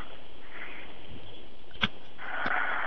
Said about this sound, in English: Okay, he's asleep. I don't think this is going to work. I hear him breathing. Yeah, that's what it sounded like.